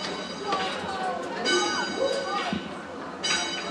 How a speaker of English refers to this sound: Just blocks from Twitter's headquarters and City Hall, the French American International School feels very San Francisco. So San Francisco, the school bell even sounds like the city's famous cable cars.